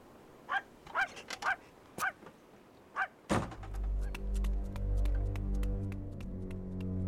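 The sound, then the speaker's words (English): A dog lets out a quick series of sharp barks, then a loud motor kicks in and settles into a steady droning hum that covers the rest. “And take this fucking dog with you.”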